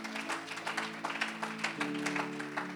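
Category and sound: crowd, audience clapping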